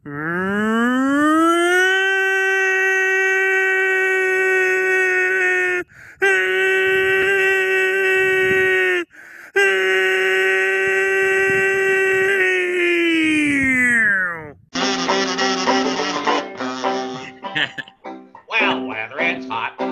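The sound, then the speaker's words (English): A voice imitates a tornado siren with a loud, steady, droning wail held for about fourteen seconds, broken by two short pauses for breath, before giving way to other busy sounds. “Okay, guys, I'm going to do a tornado siren once again.”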